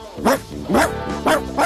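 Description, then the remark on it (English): A dog, Odie, barks four times in quick, fairly even succession, each bark loud, with a steady background sound filling the gaps between them. “Stop that dog!”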